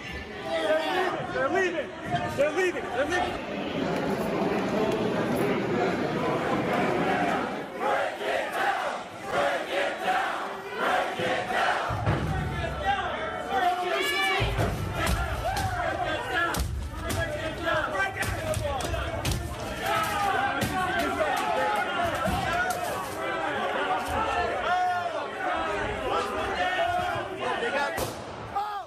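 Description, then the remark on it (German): A dense, shouting crowd of rioters roars continuously while sharp bangs and thuds break through as they smash the glass doors leading to the Senate; voices yell over each other throughout. A gunshot is fired at the end by people trying to defend the Senate. “sie schlagen die Glastüren ein oder das Glas in den Türen, die zum Senat führen”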